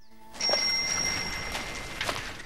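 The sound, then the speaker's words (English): A church bell by a churchyard rings once with a bright, sustained metallic tone that slowly fades over a soft background hiss. “Hearing the church bell, he moves across to the window.”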